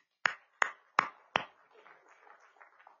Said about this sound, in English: Did y'all know that one form of worship, outward expression of worship, was clapping? Everybody do it.